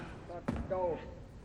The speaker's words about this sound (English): The theater door opens, and a prison guard lurches in.